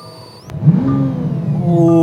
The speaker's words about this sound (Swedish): Ska vi avsluta med att du startar bilen? Ja, men det skulle jag kunna göra faktiskt.